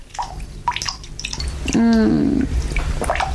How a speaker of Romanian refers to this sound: Robinetul ăsta. Auzi cum picură. O să mai picure.